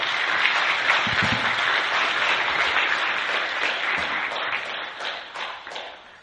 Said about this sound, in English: I know clapping is kind of weird in church, but I don't know any other way to do it well, so forgive me that.